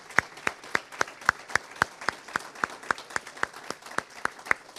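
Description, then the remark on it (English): A church audience claps together after a birth announcement, in a steady, even rhythm, roughly three sharp claps per second, loud and crisp throughout with no voices over it. “They're already clapping.”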